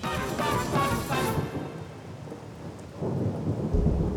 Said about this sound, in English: On the night of his demise, the mansion was a refuge from one of the tropical storms that are standard in Nassau.